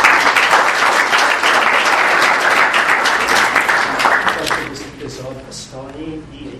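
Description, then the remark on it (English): A crowd claps steadily and loudly for about four seconds, a dense wash of many hands, then the applause fades as a person starts speaking. “I'm sorry, they were clapping.”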